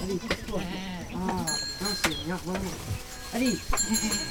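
Goats bleat repeatedly and overlap one another in wavering, nasal calls, like a small herd, with a steady rustle of farmyard background throughout.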